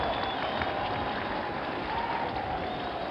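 A large crowd at the inauguration of the 35th President cheers and applauds steadily with cries of greeting and good wishes, a dense wash of clapping and shouting that holds at an even, fairly loud level throughout.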